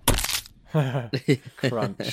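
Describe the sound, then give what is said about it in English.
A sound effect of fingers being shut in a door: a loud, sharp crunching crack, followed by a series of pained, wordless vocal cries and yelps. “I put in some sound effects of people like shutting their fingers in doors and things.”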